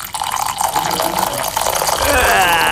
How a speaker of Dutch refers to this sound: En bijvoorbeeld het inschenken van koffie.